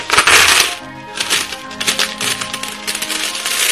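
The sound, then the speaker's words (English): Coins drop and spill with a loud, bright metallic rush, then keep clinking and jingling in scattered bursts as they settle. No one speaks. “Here's some change you can count on.”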